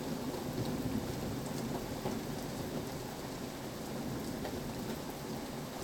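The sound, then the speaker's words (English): A thunderstorm: steady, dense rain hisses throughout, with a deep, continuous rumble of thunder underneath. No one speaks, and the sound stays constant and fairly loud the whole time. “No, lightning isn't going to come in the room.”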